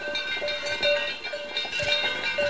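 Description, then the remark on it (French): A cowbell rings over and over in quick, uneven clangs to mark the start of recess, its bright metallic tone sustained throughout, moderately loud with no voices. “Et oui, il y avait la cloche de vache qui sonne.”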